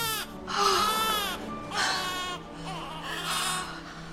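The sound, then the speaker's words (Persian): A newborn baby cries in three strained, rising wails with short breaths between them, fairly loud, with no talking. “کفون که تو پله های راه رو بود صدای نوزاد رو میشنوه، از پله ها میره پایین.”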